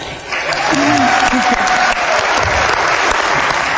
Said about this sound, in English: Everybody applaud.